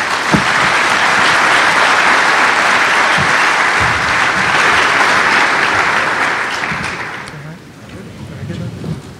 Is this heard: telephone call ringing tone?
no